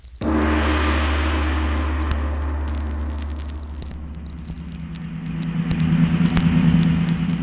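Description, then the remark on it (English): A car engine starts with a sudden onset and runs steadily with a low rumble, then the engine note rises toward the end as the vehicle pulls away. No talking. “Get the car, quickly.”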